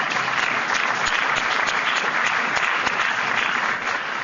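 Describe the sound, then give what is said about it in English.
An audience applauds the men and women of the EPA steadily for the whole stretch, a dense, even wash of many hands clapping at constant loudness, with no voices standing out. “You can applaud those fine men and women.”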